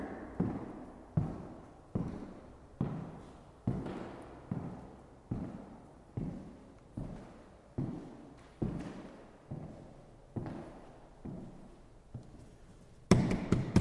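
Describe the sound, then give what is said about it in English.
Steady, evenly paced footsteps cross a very large wooden-floored room in a house, from the right corner to the left corner, each firm thud trailing a long echo. Roughly eighteen steps, ending in a brief louder scuffle. No talking. “Now I'm going to go to the right corner and walk across to the left corner.”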